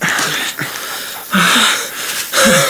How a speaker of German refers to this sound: Nach einer Weile setzte sich der Hund erschöpft auf den Boden und konnte nur noch hecheln.